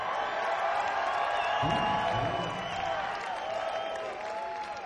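A crowd applauds steadily, dense clapping filling the whole stretch with scattered cheers and whoops rising through it, loud and sustained without a break.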